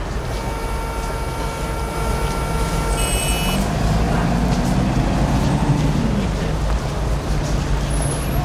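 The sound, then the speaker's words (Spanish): A steady, loud rumble of heavy road traffic with many cars at the main entrance to Portugalete off the A8, engines droning and a vehicle sweeping past midway, tonal whines and hum layered over the constant low roar. “Bueno, pero aquí hay un montón de tráfico, mucho coche, ¿no?”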